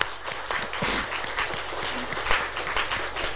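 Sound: audience applauding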